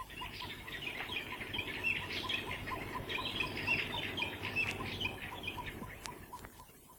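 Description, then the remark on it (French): A kolokolo bird squawks and chatters in a rapid, continuous stream of shrill, scratchy calls for several seconds, steady, with a low background rumble and no voices. “Merci, gentil oiseau, colo-colo!”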